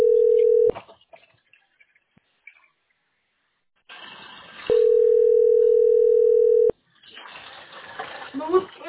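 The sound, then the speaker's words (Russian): Steady, mid-pitched ringback tones on a phone line, on a call to the company Teploenergosbyt SPb: a short burst at the start, then one loud two-second tone, with faint crackly line noise and muffled rustling in the gaps. “Вот, гудки.”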